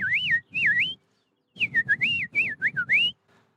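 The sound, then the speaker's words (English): A person whistles an imitation of a bird call to call back a bird: two swooping, warbling notes, a short pause, then a quicker string of rising and falling whistled notes, loud and clear with no talking. “Do you hear that bird? That bird is amazing.”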